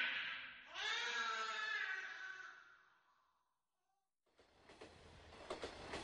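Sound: train rolling on rails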